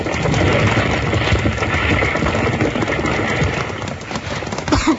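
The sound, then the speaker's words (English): A burning livery stable roof caves in with a loud, continuous roar of crackling flames and crashing timber, horses that were just set loose stamping and whinnying amid the din, and no voices. “the stable goes up in flames. Bill and Jingles rush in to save the horses, and just as they get them loose, the roof starts to cave in”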